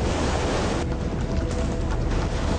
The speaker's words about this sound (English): I'm getting pummeled by the waves, and all I can do is hang on and hope for the best. I'm over the reef and off the raft.